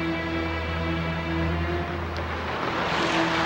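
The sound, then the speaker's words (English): A convertible's engine hums steadily with a low droning note and road noise as it turns into a parking lot beside a dam spillway, then the engine tone drops and softens as the car slows to a stop, with no voices. “The convertible turns into a parking lot beside the dam spillway.”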